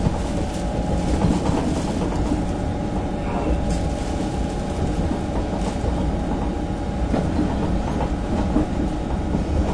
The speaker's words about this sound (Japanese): This train is bound for Haneda Airport.